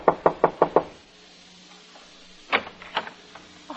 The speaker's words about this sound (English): It was 4C on the same floor as Murdoch's. I knocked at the door.